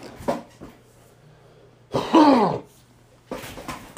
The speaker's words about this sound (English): Hold on, let me get this cough out, and then I'll get back on track.